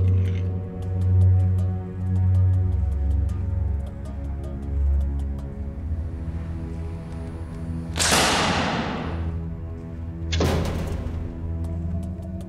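Two arrows, a Japanese yumi arrow and a longbow bodkin arrow shot from 23-kilo bows, fly and strike an iron plate, both piercing it, each a sharp, loud whoosh ending in a hit, a couple of seconds apart, over steady low background music.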